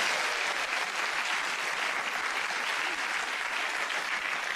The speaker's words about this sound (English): That solo applause, Richard, is to compensate for the fact that you're in fourth place.